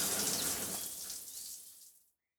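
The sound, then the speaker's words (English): Shower water runs in a steady, hissing spray for about two seconds as a man takes his evening shower, then cuts off abruptly into silence. “Every evening, he has a shower.”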